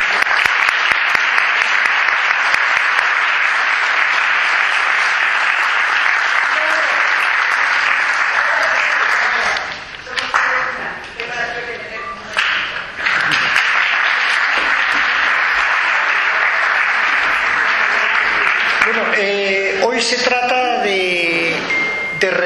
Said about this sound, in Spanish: Entonces, yo quisiera agradecérselo y dedicarle un merecido aplauso.